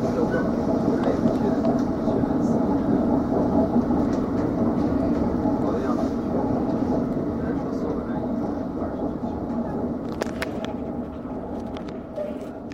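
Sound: train running on rails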